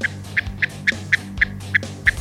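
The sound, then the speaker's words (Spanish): A European nightjar calls with a steady series of about eight short, evenly spaced mid-pitched notes, roughly four per second, over a low, continuous droning hum. “Así suena el Chotacabras europeo.”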